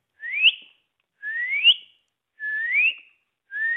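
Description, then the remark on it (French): A person whistles an imitation of a territorial bird's song: four rising, slurred whistled phrases, each about a second long, repeated at a steady pace with short gaps, clear, no talking. “Puis il y a une compétition, ils sont territoriaux, évidemment. Alors là, je vais vous imiter ça.”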